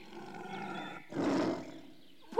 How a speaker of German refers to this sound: He, sieh, ihr Löwe beschimpft mich ja. Womöglich beißt er sogar.